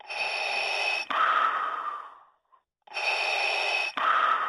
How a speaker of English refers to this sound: Yes, it's the hauntingly familiar breath sound effect or breathing sound effect of Darth Vader, reduced to a chibi little plushy. What would you call it? A keychain or a hang toy or something?